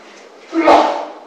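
A single sudden sneeze bursts out, loud and brief with a breathy, explosive rush, then fades quickly into a quiet hiss of background noise.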